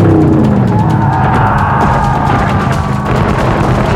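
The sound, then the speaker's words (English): A heavy truck engine roars loudly and steadily as the truck grinds forward over bodies, while sharp bangs and jolting thuds punctuate the rumble throughout, with no voices. “The truck ground ahead over the bodies.”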